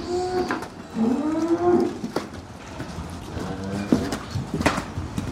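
A dairy cow in a barn lets out two long, low moos with a droning, harmonic tone, separated by a short pause, while faint clattering and knocking sounds come and go in the background.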